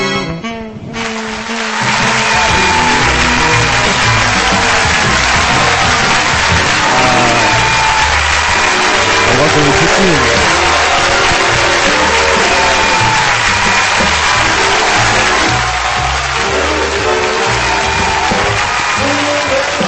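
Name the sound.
audience applause and cheering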